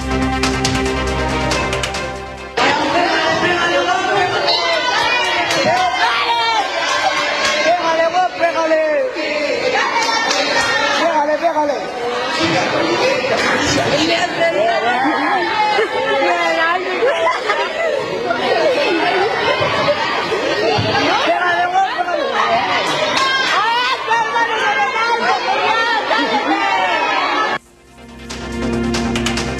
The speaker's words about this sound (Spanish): Mientras un estudiante intentaba separarlas, otros alentaban la gresca, quedando todo registrado en un video grabado desde un teléfono celular.